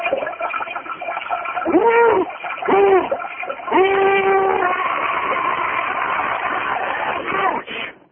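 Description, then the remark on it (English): Liquid pours into metal underwear being worn by a man, a loud splashing gush lasting several seconds, with hollow ringing tones that swell and shift as it fills, then cuts off abruptly. “He'll be pouring that liquid into his metal underwear.”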